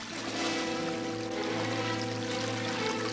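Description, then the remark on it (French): The water of a small river rushes and pours steadily as it starts flowing again after a blockage is removed, a full, continuous splashing flow that swells slightly at the start and then holds even, with a low hum running underneath. “Réveillez-vous, monsieur le géant. Vous empêchez la rivière de couler.”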